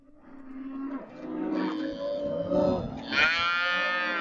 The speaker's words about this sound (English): Cows imported from the beef-rich Mexican state of Chihuahua bellow while being separated for shipping or at a temporary station set up in Presidio, Texas, where the animals are now inspected by USDA agents.